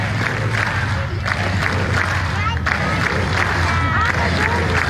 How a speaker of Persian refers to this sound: این صدای تنها صدها تن از معترضان کاتالان است که روز سه‌شنبه در یک میدان در منطقه در شمال بارسلون گرد هم آمدند و فریاد زدند که رأی دادند.